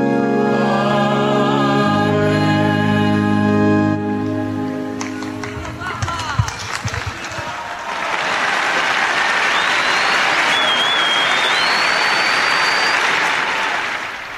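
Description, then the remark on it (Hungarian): A sustained, chanted voice gives way to a thunderous wave of applause from a large crowd thanking the Holy Father for his catechesis about the Virgin Mary. The applause is dense and continuous, with a few shrill whistles rising above it near the end. “Kedves Mária Rádió hallgatók, a szokott módon taps viharral köszönik meg a Szentatyának a szűzanyáról szóló mai katekézisét”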